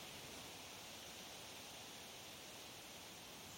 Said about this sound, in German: In sanften Böen schüttelt es an den dickköpfigen Birken, die keinerlei Lust haben, sich von ihrem Laub zu trennen. Es ist wie ein natürliches, weißes Rauschen